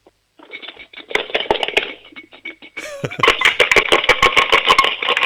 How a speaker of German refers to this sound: Hast du eine Sparbüchse? Ja. Dann hol mal die Sparbüchse und schüttel sie mal. Ich möchte alle Münzen da drinnen hören.